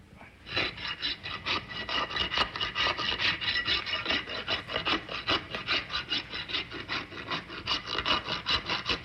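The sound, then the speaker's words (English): A rasp files a horse's hoof in steady back-and-forth strokes, about two per second, each a dry, gritty scrape. The rhythm holds evenly throughout with no voices. “10, take one, filing horse's hoof.”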